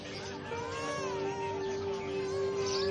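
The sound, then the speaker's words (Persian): A baby crying at home in a continuous, strained wail whose pitch bends up and down, holding at a steady, moderate loudness for about three seconds with no talking. “مثل اینکه بچه تون داره تو خونه گریه میکنه.”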